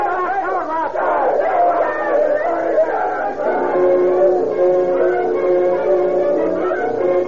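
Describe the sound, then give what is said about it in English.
An angry crowd gathered outside a jail murmurs and shouts together in a steady, unbroken roar, with a few raised, harsh cries standing out early before it settles into a sustained grumbling din. “The criminal, conscious of the mutterings of the crowd, looks uneasily at the bars in the high, narrow window”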